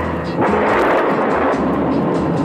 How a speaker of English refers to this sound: farmlands around Springfield, Tennessee, and the lightning slashes the hills and the thunder rolls down the valleys.